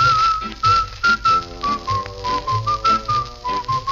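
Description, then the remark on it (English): A person whistles a bright, bouncy melody, clear and up front, over a steady rhythmic musical accompaniment with a regular beat. “It's a merry, merry whistle with a very merry beat.”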